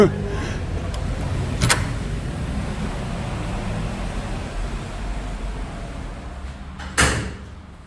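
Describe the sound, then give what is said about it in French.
A heavy carriage door is pushed open over a low, steady rumble, with a sharp thud early on and another loud knock of the door near the end. “Alors l'envie nous a pris d'aller voir des balcons, de pousser les portes cochères.”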